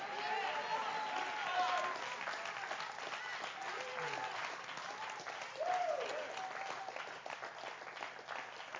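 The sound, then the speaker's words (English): A church audience applauds the young people asked to stand, dense clapping filling the whole stretch with scattered shouts and voices mixed in, swelling slightly near the middle before continuing at an even, loud level. “I clap for you when you were running. I clap.”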